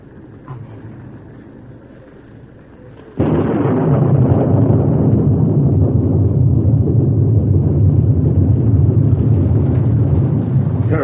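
A low, quiet rumble suddenly breaks into the loud, dense roar of a heavy rain cloudburst, which keeps pouring steadily and evenly without letting up.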